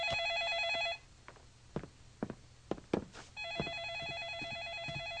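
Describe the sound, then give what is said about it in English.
A telephone rings loudly in two long bursts separated by a pause, with a few soft thumps, like footsteps, in the gap. No one speaks. “can you help Rosie with her shoes while I get the phone?”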